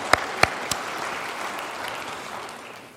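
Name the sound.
audience applauding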